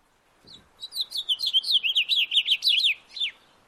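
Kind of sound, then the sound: bird, house finch song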